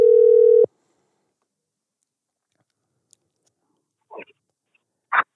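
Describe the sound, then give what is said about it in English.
A phone's outgoing ringing tone sounds once during a call placed live on air: a loud, steady, buzzy mid-pitched tone lasting just over half a second, followed by silence and a couple of short crackling bursts. “Let's see if we hit this guy up, if he picks up.”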